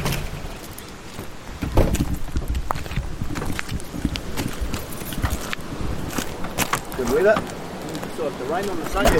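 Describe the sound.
Dense, uneven pattering of rain striking a hard surface, steady throughout, with a few louder splats and a voice briefly audible near the end.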